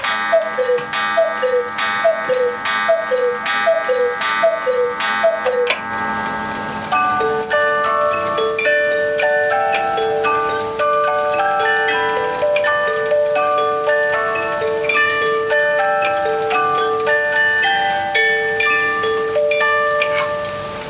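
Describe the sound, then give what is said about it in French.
A cuckoo clock ticks steadily while repeated two-note cuckoo calls sound, then a chiming, music-box-like melody takes over and plays on. No voices. “Oui, alors effectivement, là, c'est le son caractéristique du coucou.”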